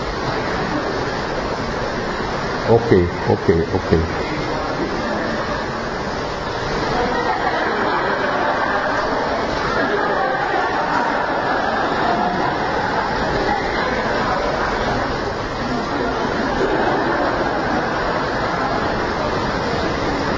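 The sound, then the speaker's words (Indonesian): Steady, dense rain hisses without pause for the whole stretch, a broad even wash of noise. A voice speaks briefly near the start. “tapi sebetulnya indah loh hujan di sini, di pandang di sini, so beautiful.”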